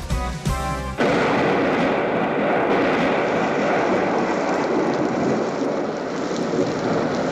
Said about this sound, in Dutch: Zachtjes stikt de regen op mijn zolderraam. Ritme van de eenzaamheid.